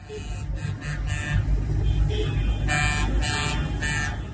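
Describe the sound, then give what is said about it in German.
Trucks and tractors honk their horns over and over at a protest by farmers and truck drivers, several blasts overlapping in an irregular chorus above a heavy, continuous engine rumble. The sound is loud. “Ja, und so klang es eigentlich die ganze letzte Woche bei uns. Denn nicht nur Bauern und Landwirte haben protestiert, nein, auch Lkw-Fahrer, Handwerker und zuletzt auch Fischer.”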